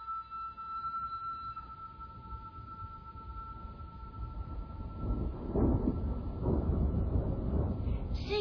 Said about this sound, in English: Sounds like a thunderstorm. In the desert? At the other end of lake.